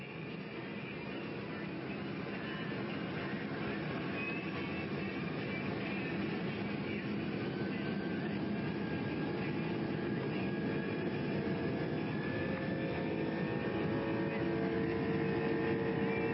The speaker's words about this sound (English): we can hear it lining up right there. Take a listen to this RB211 on an L1011, which I'll get to in a minute. Listen to this thing on takeoff. Listen to this thing purr.